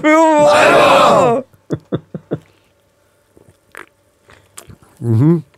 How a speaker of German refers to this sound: Leute, Ich hoffe, ihr habt euch auch schon mal was Schönes bereitgestellt, was ihr jetzt mit uns zusammen in unserer schönen Runde hier genießen könnt. Schlürfen.